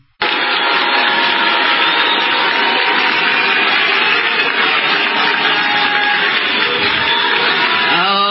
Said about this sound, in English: And when Letitia James came out, she was greeted with boos. And I don't mean alcohol.